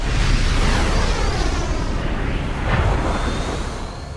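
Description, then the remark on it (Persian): A loud, sustained roaring rush with a rumbling low end from a missile launch, steady for several seconds with a slight swell near the end. No voices. “شلیک موشک شناسایی شد.”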